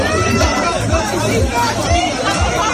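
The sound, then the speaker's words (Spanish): Desperate screams and cries from many people trapped after a restaurant building collapsed at the Medusa Beach Club in the Arenal area of Palma de Mallorca blend into a loud, continuous crowd babble, voices overlapping without pause for the whole stretch. “Así sonaban los segundos posteriores al accidente, gritos de dolor y de desesperación de las personas atrapadas.”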